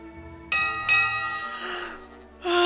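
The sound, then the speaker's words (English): A ship's bell, used for travel from Antonica to the harbor, rings out in three clear strikes, the first two close together and a third after a pause, each leaving a bright, lingering metallic tone over a low steady hum. “Let me grab the ship bell from Antonica to the harbor.”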